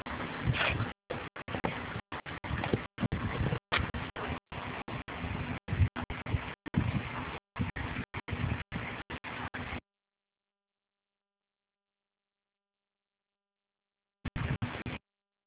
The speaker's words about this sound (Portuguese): Eu, não, porque parece que tem algum ruído atrás de você, de ventilador, alguma coisa assim, que está interferindo para eu escutar adequadamente.